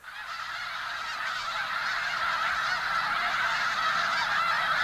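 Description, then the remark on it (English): A dense, continuous chorus of migratory snow geese and sandhill cranes calling in huge flocks at sunset in winter at the Bosque del Apache National Wildlife Refuge in the Rio Grande Valley, central New Mexico, a steady wall of overlapping honks and cries that swells slightly and carries on without pause. “Here at the Bosque del Apache National Wildlife Refuge in central New Mexico, sunset is marked by huge flocks of snow geese and sandhill cranes.”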